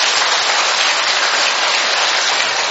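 A large church audience at a Catholic service in Saigon bursts into loud, sustained applause, dense overlapping claps filling the space evenly for a few seconds with no voices heard above it.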